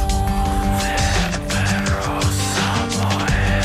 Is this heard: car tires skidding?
yes